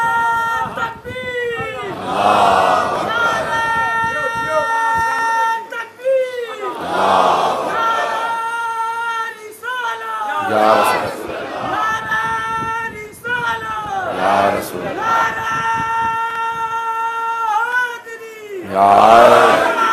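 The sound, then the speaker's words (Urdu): A large crowd chants slogans together in loud, surging waves, each shouted call swelling and fading roughly every four seconds, with a sustained voice holding a tone underneath. “والا نعرے مجھے خود بھی عزیز ہیں، یہ نعرے ہماری پہچان ہیں”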